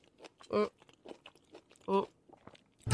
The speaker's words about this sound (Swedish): Nej, det var för att du åt godis.